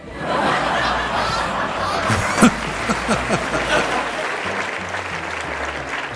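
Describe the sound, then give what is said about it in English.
A crowd claps steadily and loudly for about six seconds, with scattered cheers and whoops rising above the dense applause near the middle. “This is like prisoners cheering the warden.”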